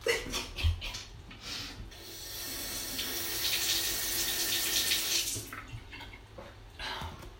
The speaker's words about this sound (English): I need a drink of water from my sink.